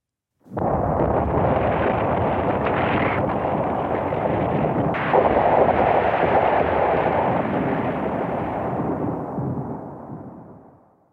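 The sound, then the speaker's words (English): A massive volcanic eruption of Krakatoa booms in with a sudden blast, then keeps roaring as a dense, rumbling wall of noise for about ten seconds before slowly dying away. “The loudest noise ever heard came from a volcano.”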